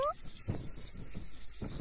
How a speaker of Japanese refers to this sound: 炭酸のシャワーで頭を洗い流してますよ。